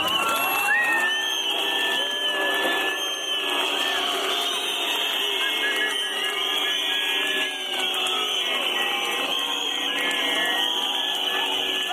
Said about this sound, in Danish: Altså, og det her, det er altså et klip fra Danmarks Radio fra den 1. maj på Tangkrogen i Aarhus i 13, hvor daværende statsminister Helle Thorning-Schmidt blev mødt af, der var meget let klapsalve, men der var rigtig meget hylekor og fløjter